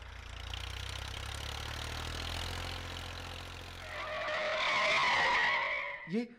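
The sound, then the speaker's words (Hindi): The engine of a soldiers' vehicle rumbles steadily as it suddenly arrives, then its tires squeal loudly in a long, shrill skid as it brakes hard to a stop, ending with a short final screech. “अचानक वहां फौजियों की गाड़ी आ पहुंची।”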